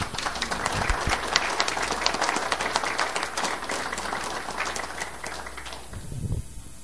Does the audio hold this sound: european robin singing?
no